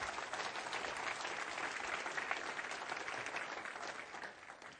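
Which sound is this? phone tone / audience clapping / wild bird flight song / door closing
audience clapping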